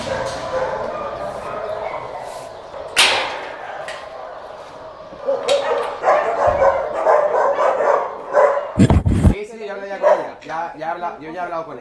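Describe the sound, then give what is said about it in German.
Several small dogs, mostly Podencos, bark and yip repeatedly in noisy, echoing shelter kennel enclosures, with sharp high barks overlapping and a few whimpers, while a person talks faintly in the background. “Sind jetzt in den Gehegen, wo die kleineren Hunde sind und vorwiegend Podenkos, aber auch ganz andere Hunde.”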